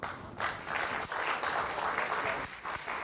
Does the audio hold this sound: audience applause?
yes